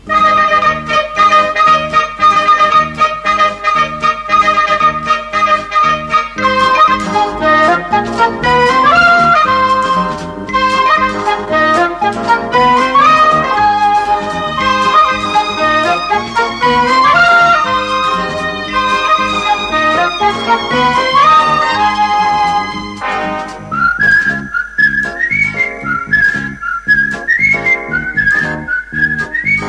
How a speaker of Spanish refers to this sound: Tema muy silbado que trae una gran silbadora y chifladora,